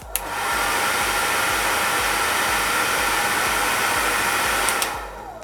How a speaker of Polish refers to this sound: później suszę włosy suszarką z dyfuzorem, czyli głowa w dół, wkładam pasma w ten dyfuzor, czyli w tę okrągłą końcówkę i włączam dopiero suszarkę. Nie włączamy suszarki, zanim będziemy mieć te pasma w dyfuzorze, bo włosy się bardziej puszą.